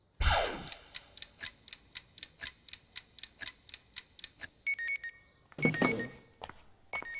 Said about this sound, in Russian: Будильник прозвенит через 5 минут.